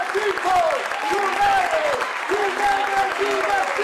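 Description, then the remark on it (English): Council members applaud themselves for forcing businesses to give workers more time off, a steady, dense patter of clapping that lasts throughout, while indistinct voices murmur and call out underneath. “They applaud themselves for forcing businesses to give workers more time off.”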